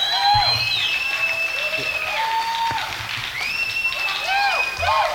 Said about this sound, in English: Thank you, ladies and gentlemen, for your wonderful round of applause.